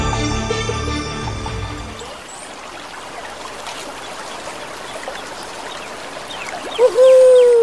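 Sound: river water flowing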